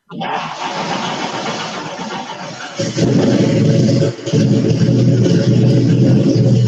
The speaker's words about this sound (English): It does sound like a stock car.